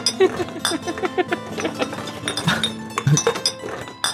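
household object, bottles clinking together

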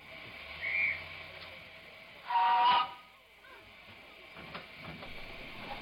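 vehicle, train whistle

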